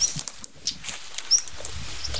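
Sharp, dry clicking calls of a stonechat repeat irregularly, while thin, faint whistled notes of nightingales sing in the background.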